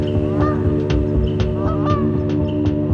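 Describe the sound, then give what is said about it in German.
Wild geese honk loudly and repeatedly as they fly over a house late in the evening, around 9 o'clock, at the start of winter, their harsh, nasal calls overlapping in an irregular chorus over a steady, dense background of more goose calls. No one speaks. “wurde ich im Anfang des Winters abends spät gegen 9 Uhr durch das laute Honk der Wildgänse aufgeschreckt.”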